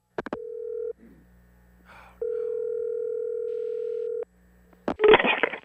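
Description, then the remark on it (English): A telephone call being placed to golfer Tiger Woods's cell phone while he plays a round: a click, a steady line tone, a brief dialing burst, then a long ringing tone that stops before the line opens with a loud rush of noise. “Number for his cell phone.”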